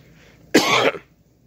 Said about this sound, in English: So I got this mask on. The motherfucker cough, got this fucking mask on.